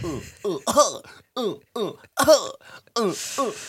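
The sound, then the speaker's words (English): A run of short, voiced coughs and throat-clearing bursts, about eight in quick uneven succession, some sounding deliberately forced or imitated, with no other talk. “Sorry, I pretend to cough, and then I did cough”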